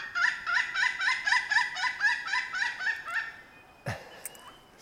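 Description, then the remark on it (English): A pileated woodpecker's loud, laughing call: a rapid series of about a dozen ringing, evenly spaced notes lasting three seconds, followed by a brief sharp noise near the end. No talking. “pileated is still a smaller bird when you compare to the larger birds out there”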